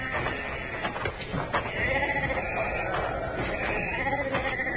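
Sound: sheep bleating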